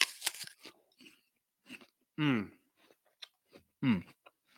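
A loud, crisp crunch of biting into a Pixie Crunch apple, followed by quieter chewing and a couple of short, drawn-out hums from the person eating.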